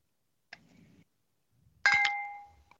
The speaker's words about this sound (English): All right. All right. Someone had a nice, fancy sounding glass. Let's find out what we've all been drinking.